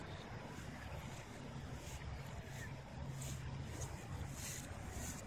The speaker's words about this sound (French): Au loin, on entend l'Interstate 87 qui traverse la ville.